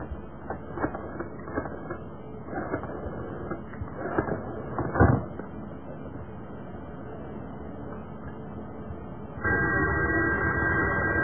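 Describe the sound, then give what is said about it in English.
A telephone call to a secret number rings repeatedly over a narrow, muffled line with a noisy hiss underneath, then gives way to a steadier, louder buzzing tone near the end. No one speaks. “Now that'll keep on ringing. Because of the secret number.”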